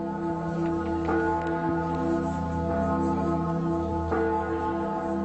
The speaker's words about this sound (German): Ließe sich die Antwort vielleicht vernehmen aus dem dunkelgoldenen Klang der mächtigsten von ihm gegossenen Glocke, der Christus Salvator in der Abteibasilika Scheiern, der mit über 10 Tonnen schwersten und tontiefsten Bayerns?